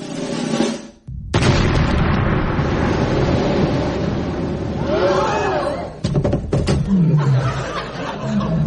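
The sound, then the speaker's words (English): After a short pause, a loud blast from a circus ear cannon under the Heated Rollers Big Top, fired to launch Bridget Jones, bursts out and rolls into a long, rumbling roar, with laughter and chuckling breaking through toward the end. “Ladies and gentlemen, and now on the Heated Rollers Big Top, by popular request, we will attempt to fire Bridget Jones from this ear cannon.”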